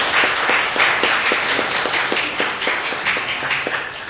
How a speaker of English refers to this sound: Why don't we give our CEC and our kids a round of applause?